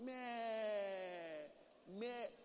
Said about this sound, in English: The sheep will bleat, calling for help.